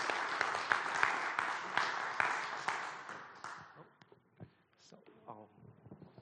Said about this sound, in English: Why don't we give them a round of applause when they come up? Great.